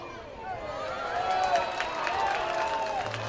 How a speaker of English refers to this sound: Really enjoy how even if a foul ball can bounce several times, roll to a stop, a fan gets it, everybody still applauds.